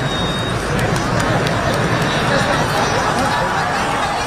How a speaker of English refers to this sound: Black smoke has emerged from a Sistine Chapel chimney at the Vatican, meaning the conclave will vote again tomorrow on a successor to Pope Francis. This was the reaction of the crowds who've gathered in St Peter's Square.